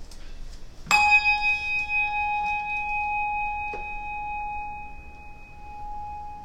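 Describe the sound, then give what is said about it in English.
A single church bell strike rings out clearly and then hums with a long, slowly fading tone, with a faint knock partway through the decay, rung before Sunday morning worship. “After the ringing of a bell and a moment of quiet, we'll begin our Sunday morning worship.”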